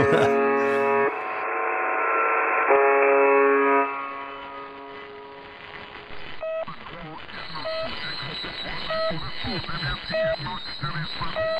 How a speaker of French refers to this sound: Je sais pas du tout ce que c'est, ça. Ce bip, je l'ai entendu des centaines de fois, mais je sais pas du tout. Je sais que c'est aussi une histoire qui se trouve en Russie, mais alors à quoi ça sert, j'ai absolument aucune idée.